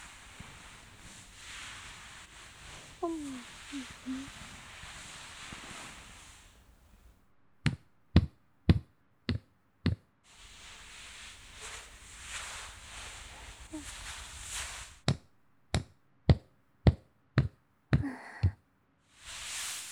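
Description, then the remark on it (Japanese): Soft rubbing and kneading of hands massaging, a steady brushing friction, interrupted twice by quick runs of about six sharp, rhythmic taps. “もみもみもみもみもみ。”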